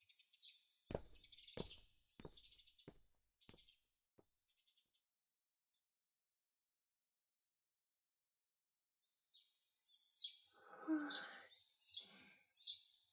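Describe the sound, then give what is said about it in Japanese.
Birds chirp in bright, quick bursts, with several sharp taps early on, then a quiet pause before a fuller round of lively twittering calls returns near the end. “鳥さんが元気ですね。”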